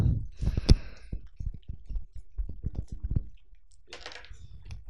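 A quick flurry of hard little clicks and clatters as two dice are rolled across a game board, tumbling and bouncing, then settling on double threes, followed by a brief soft rustle. Fairly crisp, with no talking.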